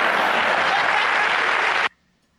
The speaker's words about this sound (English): And you hear the applause there because they're laughing nervously, but there are people who took 2 years of Spanish or 2 years of French, and basically all they remember is how to say, how are you?